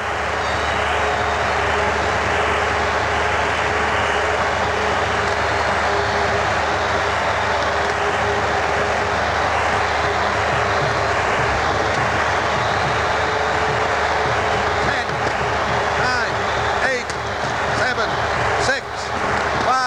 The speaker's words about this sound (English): Only a few seconds left in the year of 1972. Slowly it moves down the flagpole atop the tower, and the crowd's shouting is rising to a fantastic pitch. I'm going to let you just listen to that crowd with 30 seconds to go.